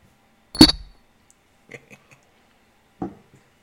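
Big shot glasses of RumChata clink together: a sharp glass clink rings out once with a brief bright tone, followed by a few faint taps and then a second, softer knock of glass a few seconds later.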